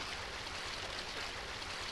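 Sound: lake water lapping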